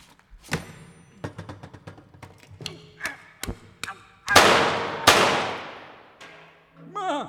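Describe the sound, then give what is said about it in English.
A comic sound effect, presented as a reenactment on Riders Radio Theater, of someone struggling to open a can of beans: a string of sharp clanks and thuds, two loud crashing bangs with ringing tails, then a short wobbly metallic tone. “It ain't usually that hard to open a can of beans.”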